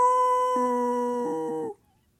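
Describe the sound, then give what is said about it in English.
A man imitates a werewolf's howl, going "Roo!" while sneaking up to the bushes in the shadows at night: one long, loud, steady wail with a held pitch and a slight wavering toward the end, lasting under two seconds before cutting off into quiet. “sneak up and be the werewolf”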